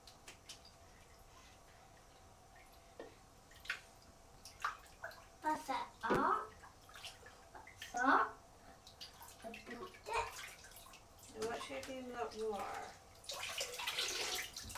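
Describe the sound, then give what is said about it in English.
Water sloshes and splashes in a bathtub, with irregular bursts of movement and a child's voice chattering softly in between. “Time to come out because your water is getting cold.”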